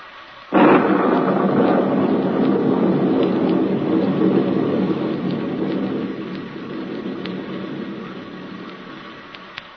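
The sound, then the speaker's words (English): A sudden loud burst gives way to a steady, heavy wash of rain that holds strong for several seconds, then gradually thins and softens toward the end. No voices are heard. “I can't make gasoline out of rain.”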